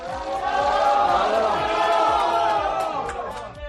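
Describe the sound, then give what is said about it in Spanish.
A crowd of fans in Turin shouts and cheers continuously to greet footballer Morata on his arrival at night, many voices overlapping into a loud, steady roar of excited yelling that holds for several seconds without a break. “Gritos para un futbolista que vuelve nuevamente a una ciudad que le vio crecer como jugador.”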